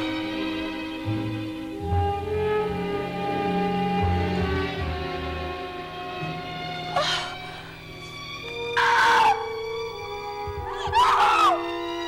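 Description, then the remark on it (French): Anguished screams burst out in three short, harsh cries toward the end, rising over a sustained, droning musical backdrop that plays throughout. “Elle rêve au serveur et à Frédéric, et à ses cris d'angoisse.”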